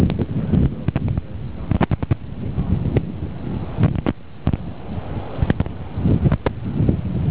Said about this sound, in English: Hold on 1 second. I'm rustling my clothing. Let me just tuck stuff in and make this look a little bit more like a real suit.